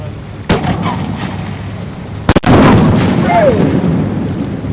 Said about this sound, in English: This year, because of the rain, the shell exploded on the ground, shooting luminous debris at the press pool standing 75 feet away. The demonstration was cut short, but the point was made.